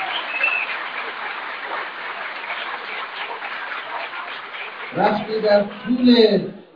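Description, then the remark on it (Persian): An audience claps steadily in a dense, even wash for about five seconds during a speech before the male speaker cuts in over the tail of it, asking them not to applaud. “آقا اجازه بدید، اصلا من نمیخواد تشویق کنم، تا آخر بذارید من حرف، من تشویق لازم ندارم.”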